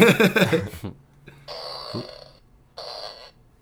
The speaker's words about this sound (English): So is that a, is that a fart maker? Yeah, my aunt got me this.